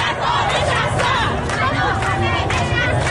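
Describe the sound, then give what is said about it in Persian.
A large crowd of protesters in Shahr-e Kord, Iran, chants slogans together in loud, rhythmic bursts, their massed voices dense and continuous with a steady low rumble underneath. “بعد از تهران ما شاهد این بودیم که در شهر کرد تظاهرات بزرگی آغاز شد و تظاهرات همراه با شعارهای متنوع از جمله شعاری که الان میشنویم.”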